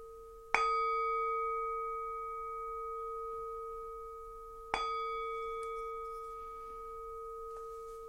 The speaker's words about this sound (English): And as the sound of the singing bell fades away, bring your attention to your body, either sitting or lying, in this room, moving your attention into the room as you open your eyes.